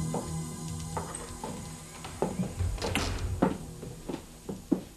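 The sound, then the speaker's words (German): A door is opened with a clunk and rattle, followed by scattered knocks and soft thuds as three people step into the house where the star De La Roque lives; no one speaks. “Sie klingelten an der Tür. Doch niemand öffnete. Deshalb traten die drei kurzerhand ein.”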